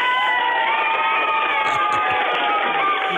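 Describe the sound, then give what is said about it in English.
A crowd of children cheers loudly and continuously, giving themselves a big round of applause after a performance, high-pitched voices shouting together with clapping mixed in, a dense, sustained burst of excitement lasting the whole moment. “Tell them to give themselves a big round of applause.”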